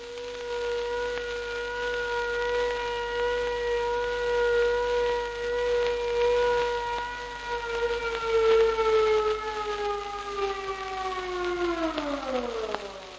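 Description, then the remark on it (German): An air raid siren in the German Reich sounds the all-clear (Entwarnung), a signal lasting about two minutes: one long, high, steady, unwavering tone that holds its pitch for several seconds, then winds down and falls away at the end. No voices are heard. “Das Signal der Entwarnung klingt wie folgt aus.”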